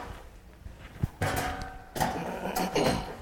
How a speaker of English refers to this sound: I need three of them. I'm going to set them right up here where you can get a good look at them. They're just kind of regular chairs.